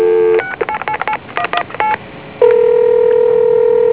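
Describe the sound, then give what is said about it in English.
A steady telephone tone cuts off, followed by a quick burst of keypad dialing beeps as a time and temperature line is called, several short dual-tone presses in rapid sequence, then a brief pause before a loud, continuous ringback-like tone begins. “Let me call the time and temperature to verify that.”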